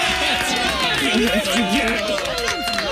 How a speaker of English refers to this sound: All right, so representing for Satellite Beach, everybody's clapping for you.